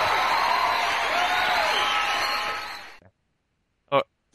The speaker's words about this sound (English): Do you have any canned applause to play in the background?